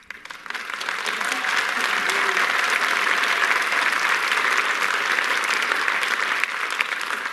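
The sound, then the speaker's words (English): A standing ovation from a large audience on an Academy stage welcoming Shasheen Littlefeather: sustained, dense applause, a steady wash of clapping that holds at full strength for several seconds. “she returned to an Academy stage this month, she was welcomed with native dancers and singers and four standing ovations.”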